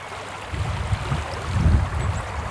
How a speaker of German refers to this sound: Malerisch und verwildert plätschert der kleine Fluss Fein zwischen der nordirischen Grafschaft Armagh und der irischen Grafschaft Monaghan. Das wird die Grenzlinie zwischen dem Vereinigten Königreich und der Europäischen Union.